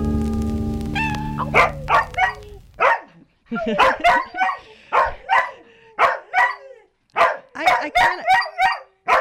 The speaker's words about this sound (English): Yes, we're allowed to have dogs in the studio for educational purposes.